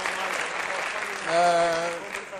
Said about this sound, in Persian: تشویقش کنیم تا من برم خدمت.